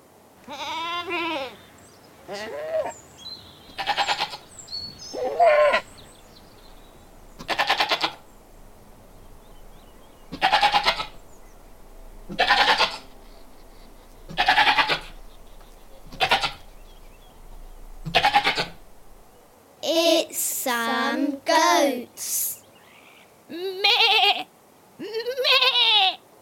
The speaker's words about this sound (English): Perhaps you thought it was a sheep. Goats sound very like sheep when they bleat.